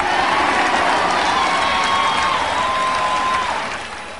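A large crowd cheers and applauds in a loud, dense roar, with a few whistles and whoops rising through it, before the noise starts to fade near the end.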